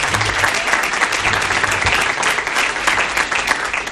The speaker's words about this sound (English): And before we do move into this panel discussion, I would like us, and I don't see any of them back there, but maybe they can hear us clapping for them, the staff here at the state park. Don't they do a wonderful job?